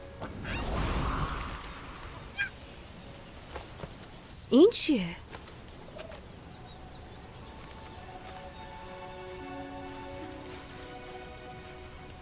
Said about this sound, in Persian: اون دیگه چیه؟ یه لمر پرنده. قبلا آسمون پر از اونا بود.